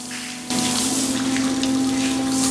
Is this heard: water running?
yes